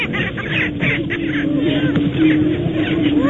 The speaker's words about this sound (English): It's 5 a.m., pitch black with just a glimmer of light on the eastern horizon. It's hard to make out the prairie chickens, but you can already hear them.